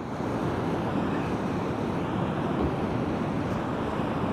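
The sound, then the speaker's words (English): Ocean water surges and washes against a rock face with rock pools and a cave entrance on its side, in a steady, rumbling rush that holds an even loudness throughout, with no distinct crash. No one speaks. “As a wave comes up, so we'll get to see how high the water will go.”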